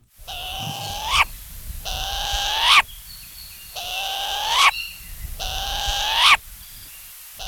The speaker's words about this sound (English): For today's Manu Minute, we've got the call of the pueu, Hawaii's only native owl.